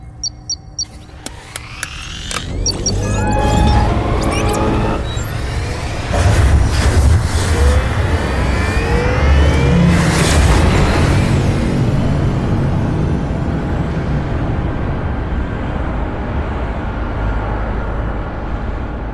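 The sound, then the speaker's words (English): Spaceship engines are fired up to depart for Earth, powering up with rising whines and sweeping tones, then settling into a loud, deep, continuous rumble that fills the whole stretch without any voices. “All hands to battle stations. We depart for Earth in 1 hour. Lieutenant, fire up the engines.”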